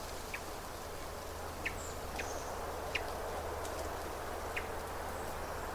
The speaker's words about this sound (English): It's like a call note. I'm actually watching the bird. This is a thrush. It's a hermit thrush. It makes this wonderful chirp sound. They all have songs besides these noises.